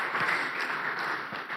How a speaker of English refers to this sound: Can we again clap to our Lord for this message?